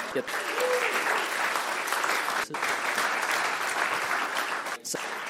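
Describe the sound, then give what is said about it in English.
Sustained audience applause welcoming a panel, a dense, steady wash of many hands clapping at a fairly loud level, continuing without pause for several seconds with only brief dips. “So without further ado, please welcome the panel by giving them a round of applause.”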